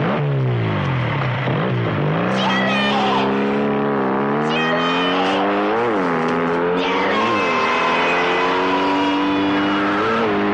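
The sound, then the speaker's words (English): A motorbike engine revs hard as Ringerman jumps on it and zooms past, its pitch climbing and dipping in repeated surges as it accelerates and roars by, loud and continuous throughout. “Ringerman jumps on a motorbike.”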